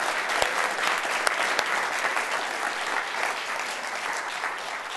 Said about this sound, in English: Can we give another round of applause for the music team, please?